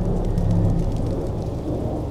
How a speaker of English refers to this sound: When she woke up, she could hear the rain coming down hard outside.